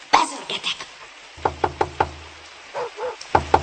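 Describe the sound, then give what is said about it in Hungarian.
Heavy pounding on a gate: one loud thump, a quick run of four hard knocks, a pause, then two more forceful blows. No voices. “Ilyen mennydörgős, bentőveri ott a kaput!”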